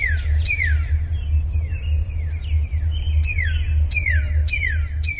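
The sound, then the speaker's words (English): Cardinal and house finch calls, as heard in Midwest backyards: a string of clear, downward-slurring whistles and quick bright chirps repeating in bursts, over a steady low rumble in the background. “Cardinal and house finch calls are just a couple of sounds people in the Midwest hear in their backyards, but a local wildlife biologist says the numbers of most bird species are declining, and global warming is probably making it worse.”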